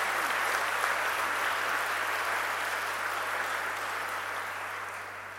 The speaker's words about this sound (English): And I think all the staff of PSI do deserve a round of applause for what they've done for us and our organisation.